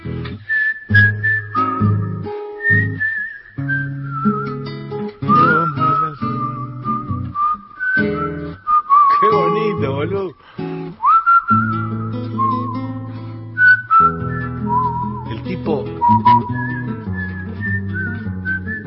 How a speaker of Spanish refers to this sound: Viene el pitilín. Sí, el tipo toca, silba y se felicita.